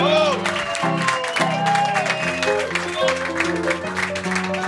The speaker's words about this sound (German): einen warmen Applaus